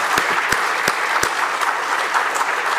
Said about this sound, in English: How about a nice round of applause for all four of the candidates who have been here this evening?